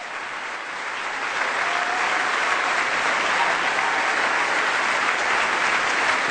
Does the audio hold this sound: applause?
yes